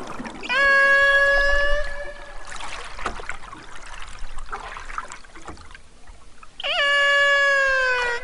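A call of a lone male Chugach transient killer whale, recorded by Olson in 2019: two long, loud, rising-then-steady wailing tones, about six seconds apart, with faint watery underwater swishing and trickling in between. No one speaks.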